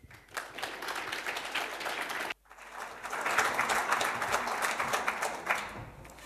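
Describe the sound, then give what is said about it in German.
Steady audience applause welcoming a speaker to a talk on compiler optimization for Forth on microcontrollers, many hands clapping in a dense, even wash, with a brief drop-out partway through before the clapping swells back up and continues. “Bitte einen warmen Applaus”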